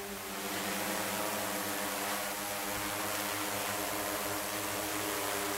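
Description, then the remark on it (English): A steady, whining buzz of the rotors of a drone equipped with sensors and cameras, sweeping over the roofs and chimneys of Katowice in search of heating violations, holding an even pitch and loudness throughout with a layer of rushing noise and no voices. “Marcin Górniok, an environmental engineer, and his colleagues have developed drones capable of sniffing out the problem.”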